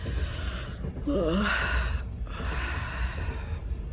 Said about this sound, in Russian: Зевает, вздыхает.